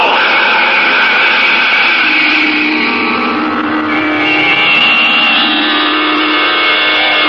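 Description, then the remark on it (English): A loud, sustained rocket engine roar at blast-off as the rocket, its exhaust tube spitting smoke and flame, hovers over the ground and then accelerates into the night sky. A dense rumbling blast with shifting tonal whine holds steady for several seconds, with no voices. “Its exhaust tube spitting smoke and flame, the rocket hovers over the ground for an instant, then quickly accelerates, and at a speed of 5,000 miles per hour, it arrows into the night sky and disappears from view.”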